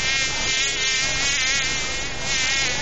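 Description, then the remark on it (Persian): A fly buzzes loudly for a few seconds, a steady droning whine with slight wavering in pitch, no voices present. “خو مگس جان، گاهی وقتم شده که یک چشم آرام خو کده باشی، چرا که همیشه در گشت هستی؟”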